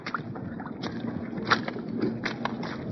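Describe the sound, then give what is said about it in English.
American soldiers of United Nations troops, carrying 60-pound packs, wade through a shallow, icy, rock and ice-bedded river east of Seoul: irregular splashes and sloshing water break through a steady rushing hiss, with no voices. “These are the sounds of American doughfoots with 60-pound packs on their back, wading across the shallow rock and ice-bedded river that winning armies have crossed four times in this 10 months of war.”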